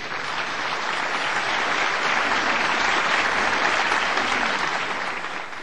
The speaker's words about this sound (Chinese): 请大家以掌声鼓励。